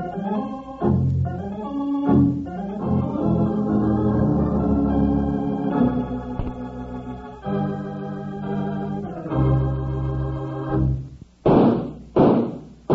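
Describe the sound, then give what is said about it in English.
Three sharp gunshots crack out close together near the end, right after a stretch of sustained orchestral music that stops abruptly before them. “Wranglers, those three gunshots are just to remind you that Kellogg's new cutout masks are in 3D.”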